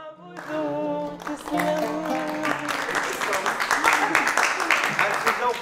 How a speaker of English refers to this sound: Three young women in head coverings smile and sway to the rhythm of the song, and the listeners clap along.